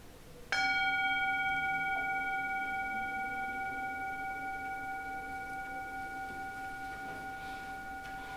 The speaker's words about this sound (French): Et donc je vais faire un coup de gong simplement pour indiquer le début de la pratique.